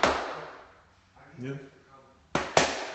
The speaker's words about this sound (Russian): Давайте я попробую хлопнуть два раза. Надо два раза хлопнуть, чтобы камин загорелся.